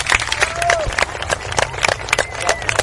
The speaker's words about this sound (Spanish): De la compañía Chimichurri, que el último aplauso sea para todos nosotros. Muchas gracias.